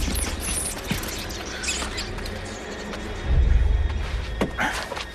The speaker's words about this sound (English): The tunnel is crawling with rats. Amy has a number of the creatures on her back, and they set off again, David grimacing as he powers through the scurrying rats.